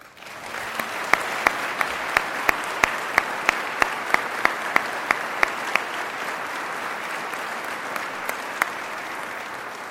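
applause

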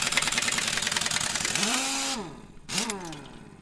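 truck engine running

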